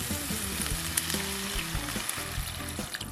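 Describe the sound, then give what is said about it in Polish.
Previously prepared broth is poured into a hot pan of lightly fried vegetables and chicken, setting off a loud, steady sizzle and crackle that fills the whole clip, with low bubbling and gurgling underneath. No one speaks. “Do podsmażonych warzyw i kurczaka dolewamy wcześniej przygotowany bulion.”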